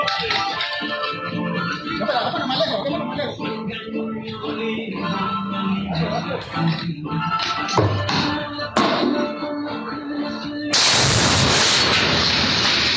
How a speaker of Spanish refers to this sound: Otra explosión, otra granada. No es dinamita, son granadas. Hay disparos que están cayendo hacia la parte de abajo, el piso, las piedras, y es por lo que están disparándole a lo que es la puerta, la cerradura para poder entrar.